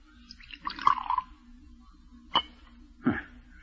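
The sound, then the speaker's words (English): A short splashy pour of poison into a tumbler, followed after a pause by two sharp, separate drips or clinks against the glass, all fairly quiet with no talking. “Pour it out.”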